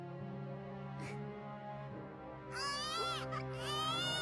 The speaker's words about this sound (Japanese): 赤ん坊の鳴き声。生まれたよ赤ちゃん。